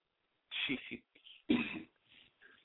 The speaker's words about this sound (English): Ooh, somebody is coughing up a lung over there.